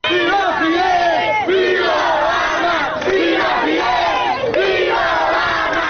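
A large crowd of Havana residents in Cuba chants and cheers loudly, shouting "Long live Fidel, long live Obama" to greet the arrival of US President Barack Obama, many voices in rising and falling waves that carry on without a break for about six seconds.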